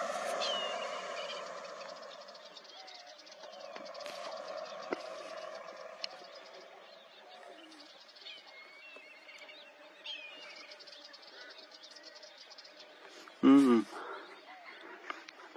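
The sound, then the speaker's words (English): A big saltwater crocodile lets out a single short, loud guttural call near the end, rising out of a quiet outdoor backdrop of birds and faint ambient noise. “That's a salty. Big boy. Listen to that.”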